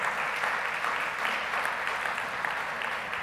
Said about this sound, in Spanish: Denle ese aplauso al Señor, hermano. Gloria a Dios.